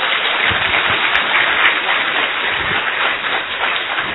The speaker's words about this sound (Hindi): तो भाई साहब का बहुत बहुत थैंक्स है, सभी एक बार जोर से ताली भी बजाएंगे।